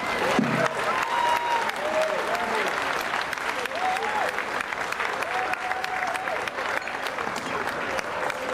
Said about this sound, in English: Please, you guys, give a round of applause to Ray McGuire.